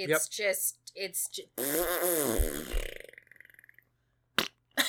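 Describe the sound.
A brief bit of speech, then someone blows a long, loud, wet fart noise with their mouth at Activision Blizzard's corporate communications, sputtering and fading out over about a second and a half.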